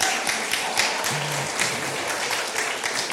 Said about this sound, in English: Should we give a round of applause?